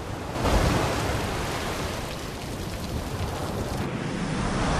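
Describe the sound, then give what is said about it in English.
Heavy storm surf roars and crashes against black sea cliffs, throwing up towering columns of spray over their tops, a loud, continuous wash of spray and rumble that surges at the start and never lets up, with no voices. “Waves smash against black cliffs, throwing up towering columns of spray that reach over the tops of them.”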